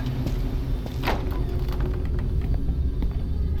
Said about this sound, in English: Keep the car running.